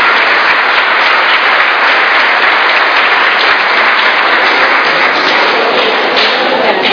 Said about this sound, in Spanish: Muy bien estuviste, Sí, un aplauso para el árbol, para Zaqueo.